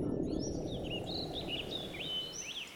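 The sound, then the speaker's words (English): A small bright scarlet bird, a hummer, perched on top of a 4-meter-high perimeter fence around a company headquarters, chirps in a string of quick, rising and falling notes, fairly soft, over a steady outdoor background hiss. “He watched a small bird, a hummer, bright scarlet, perch on top of the 4-meter-high perimeter fence that ran for 6 kilometers around Arcanian Micro's headquarters”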